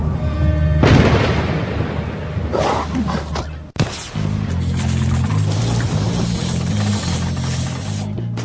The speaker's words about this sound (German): Schon der Trailer zum Film Alois Nebel kündigt ein geheimnisvolles und gefährliches Abenteuer an. Es donnert, ein Hund fletscht seine Zähne und es wird geschossen.